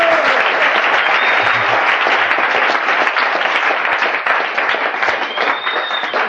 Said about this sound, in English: Round of applause for a man. Thank you.